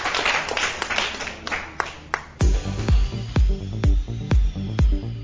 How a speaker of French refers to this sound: Sous vos applaudissements, mesdames et messieurs, on est ensemble.